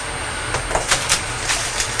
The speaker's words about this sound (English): Mummy's just turned the kettle on. Can you hear it? Hey. Yes, to make some tea.